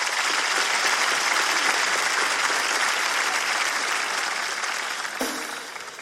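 Sustained audience applause, a dense wash of many hands clapping that holds steady and loud for several seconds, then begins to thin and fade slightly at the end.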